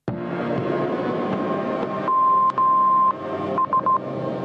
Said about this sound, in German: So würde es tönen, wenn ein Kind oder eine Jugendliche verschwindet und eine Entführung wahrscheinlich ist. Seit einem Jahr kann flächendeckend Entführungsalarm ausgelöst werden.